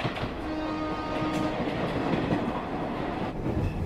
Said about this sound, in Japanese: ただいまこの電車は雪のため10分ほど遅れて運行しております。お急ぎのところ列車を遅れておりますことをお詫びいたします。